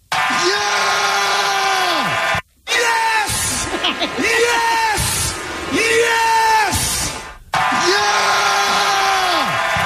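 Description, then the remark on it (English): A baseball manager who has just won the World Series lets out loud, drawn-out primal screams, several sustained bellows in a row, with a cheering crowd roaring underneath. “I just love the primal scream that this guy's got.”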